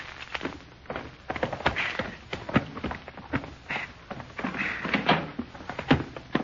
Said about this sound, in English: All right, go ahead and open the door, Short Off. Here's the keys.